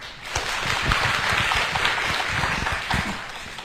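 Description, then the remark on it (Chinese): A crowd applauds warmly and steadily, a dense wash of many hands clapping at an even, fairly loud level for several seconds with no voices over it, as a fellow worker is introduced to share his view. “那我们看到不同的孩子的时候，都要用好奇的眼光看着他，报以热烈的掌声。”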